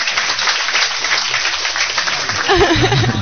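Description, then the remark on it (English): An audience applauds steadily for a person who has been asked to stand up, with dense, even clapping at a constant level. Toward the end, a voice briefly rises over the clapping. “Full applause for Bata. Yes. Applause.”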